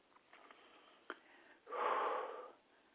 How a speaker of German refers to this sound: Eure Botschafterin muss so heftig schnaufen, weil sie die Übung mitmacht.